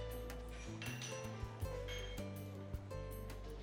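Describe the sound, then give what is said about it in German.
Light clinks of plates ring out several times over a steady low hum, sharp, scattered irregularly through a few seconds, while people talk around a counter. “Tassen klappern, Teller klirren,”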